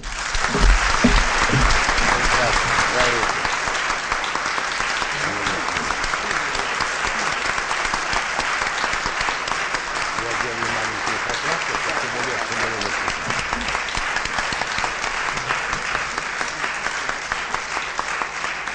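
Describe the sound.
Sustained applause from a large audience, a dense, steady roar of clapping that stays loud throughout, with faint voices mixed underneath.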